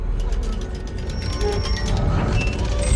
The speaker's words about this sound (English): A set of red doors lies ahead. The doors have a gold Christmas tree made of spirals. A star is on top and a green button is in the middle of the star. Dulce presses the button. White mist comes through the doors as they open.